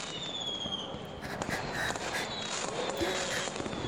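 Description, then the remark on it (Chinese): Fireworks crackle and pop continuously while people gather to watch, with many sharp bursts overlapping in an irregular, busy rhythm. No one speaks. “大家都来看烟花，没有人会注意到我。”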